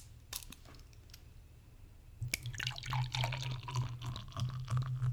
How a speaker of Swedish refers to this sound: Jag kommer fylla det här glaset. Ja. Det är kul med lager också, för det dricker inte du glas jätteofta.